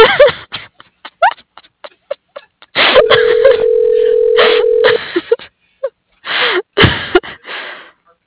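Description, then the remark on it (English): A telephone ringing tone sounds once, a steady mid-pitched buzz lasting about two seconds, surrounded by scattered short noises and breathy bursts. “It's just ringing forever”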